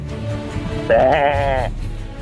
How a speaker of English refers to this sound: What is this now? Hello? Is this a goat?